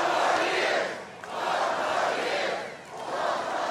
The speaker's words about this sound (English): Then that evening in Washington Park in Dubuque, it was President Obama's supporters' turn to cheer on their candidate.